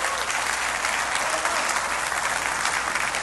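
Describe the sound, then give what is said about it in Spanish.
A church audience breaks into loud, sustained applause for the Lord, a dense wash of many hands clapping steadily for several seconds with no voices rising above it. “Alguien denle un aplauso fuerte al Señor.”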